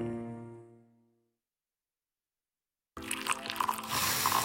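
A sustained musical note fades into a moment of silence, then coffee pours steadily into a cup, a continuous splashing, gurgling stream that carries on to the end.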